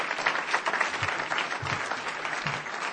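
An audience applauds people who made commitments, clapping steadily, a dense wash of many hands blending into a continuous, fairly loud patter with no voices rising above it.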